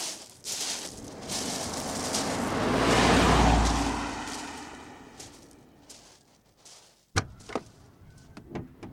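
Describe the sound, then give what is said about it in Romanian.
A broad whooshing rumble swells and fades, then a sharp car door thud lands near the end, followed by a few smaller clunks and rattles as people get into a car. “Haideți, mămică, în mașină, haideți.”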